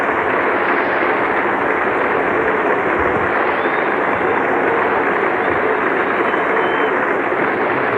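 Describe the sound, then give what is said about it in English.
A large cricket crowd applauds West Indies batsman Clive Lloyd after his splendid innings of 102 in the Prudential Cup, with steady, dense clapping that stays loud and unbroken for the whole stretch, blending into one continuous roar. “There's the applause for a splendid innings.”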